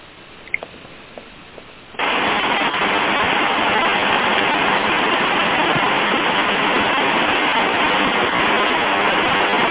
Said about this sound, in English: we can hear the rain. I'm going to have to get closer to the phone then so I can get over the rain.